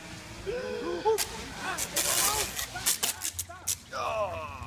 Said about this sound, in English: In case you couldn't tell, that was the sound of a very expensive drone flying into a brick wall.